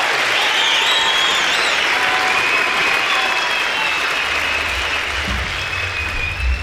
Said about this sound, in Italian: Hanno fatto i nostri applausi.